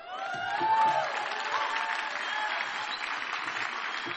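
A conference crowd breaks into sustained applause as writer, performer and slam poet Dominique Christina is introduced: a dense, steady wash of clapping with a few whoops and cheers rising through it near the start, holding strong for the full four seconds.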